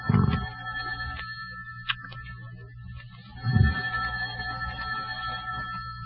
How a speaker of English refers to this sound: the phone's ringing. I hear it. Well, aren't you going to answer it? Uh-uh. Well, I'm not going to. Let it ring.